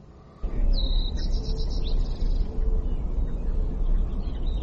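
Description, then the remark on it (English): A series of high, thin chirping bird calls trills over a steady, loud rushing noise like wind, with a few fainter calls near the end and no one speaking, from a brief video of an eagle mounting up and circling in the air. “This is a brief video of an eagle mounting up.”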